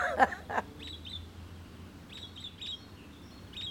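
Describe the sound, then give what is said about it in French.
Birds call in a steady outdoor scene: two louder, harsher squawks open it, followed by a scattered series of high, short chirps repeating over a low background rumble. “Des oiseaux.”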